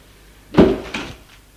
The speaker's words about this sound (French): La porte du salon s'est ouverte. C'est sa mère.